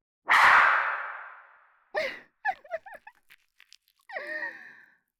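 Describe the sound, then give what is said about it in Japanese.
A single sharp slap across the face rings out loudly with a lingering breathy tail, followed by a few short strained vocal gasps and moans. “ビンタをもらってありがとうございます、ありがとうございます。”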